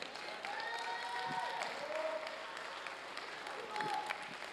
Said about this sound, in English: Come on, don't stop. Don't stop. You're not clapping for me. You're praising God for the promise that's over your life right now.